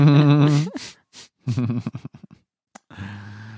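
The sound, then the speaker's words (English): Human voices imitate bird calls: a warbling, wavering call, then a run of short chirpy bursts, a brief sharp squeak and a final sustained tone, all fairly loud with short gaps. “We're mimicking bird sounds.”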